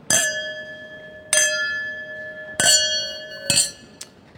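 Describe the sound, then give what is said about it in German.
Four bright glass clinks ring out in an uneven rhythm, each leaving a high, sustained tone that hums and fades before the next tap; no voices are heard. Glasses of champagne clinked together in a toast. “ich möchte euch anstoßen.”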